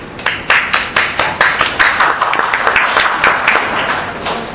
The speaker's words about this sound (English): They are noteworthy, they are important, and they are wonderful building blocks. So applause to you all on that.